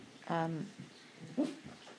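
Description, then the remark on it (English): A dog barks twice, a longer drawn-out bark followed by a shorter one about a second later, moderately loud, with a faint murmur of background noise. “What is this idiot barking at?”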